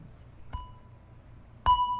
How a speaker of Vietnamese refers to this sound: Rồi bây giờ mình thỉnh chuông. Bây giờ mình thỉnh chuông cũng vậy. Trước khi mình thỉnh chuông á, là mình phải cầm cái dùi lên và mình thức cái chuông 2 cái trước. trước khi có 3 tiếng là phải thức nó 2 cái.